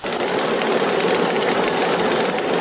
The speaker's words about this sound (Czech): I zaista bila bi šteta kada se u ovom starom, ali funkcionalnom mlinu ne bi više čuo jedinstveni zvuk kamena kojeg pokreće voda, odnosno kada bi nestalo svjedočanstvo o životu i radu prije 100 godina u ovom dijelu Bosne i Hercegovine.